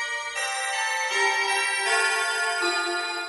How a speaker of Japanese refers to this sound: この曲は B チャイムです。チャイムというとウェストミンスターチャイムが有名ですが、ここはミュージックファクトリーのオリジナルチャイムの方がイメージアップ効果抜群。